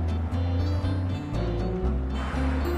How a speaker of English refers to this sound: Out in the street, she's driving along